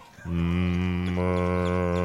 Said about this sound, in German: Das war im Übrigen die Gertrud gerade, die Mu gemacht hat.